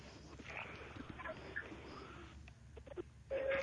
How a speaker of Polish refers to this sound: Ten instrument nazywa się krowi dzwonek.